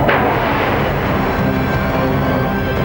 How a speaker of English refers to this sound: Did this explosion bring about the destruction of a unique society?